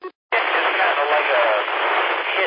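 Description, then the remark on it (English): A short radio burst cuts off into a brief silence, then a loud, steady static hiss fills the rest, tinny and band-limited like a repeater keying up with a ker-chunk. “A very loud, noisy, hissing sound.”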